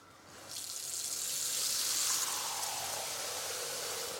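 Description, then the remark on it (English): A smart faucet, triggered by a wave of the hand, switches on and dispenses exactly 2 cups of warm water, about 104 degrees, into a bowl, a continuous hissing splash that holds for several seconds with no talking. “And then once I go over to it now, I'll stop it from running and then I wave again and it will dispense exactly 2 cups into my bowl for me.”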